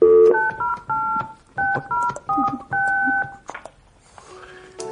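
A quick run of about six telephone keypad tones, each a short, clear two-pitched beep, dialing a phone line called Girl Talk, followed by a brief electronic tone on the line. No one speaks.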